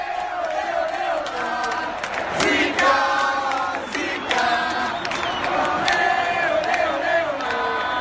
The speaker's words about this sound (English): The team is already out, and they're being a little bit playful, the crowd. And then when she comes out, they start chanting. They're singing a song with Zika in it.